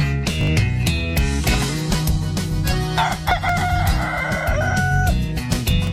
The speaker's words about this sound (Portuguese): Galo tá cantando, para não,